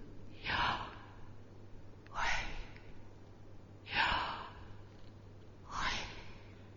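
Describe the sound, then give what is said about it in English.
Slow, deliberate breaths drawn in and let out, four airy rushes evenly spaced about two seconds apart, soft against a faint steady hum; a person breathing purposefully as a way of saying the sacred name of God. “or words just won't do, try saying the sacred name of God purposefully by breathing.”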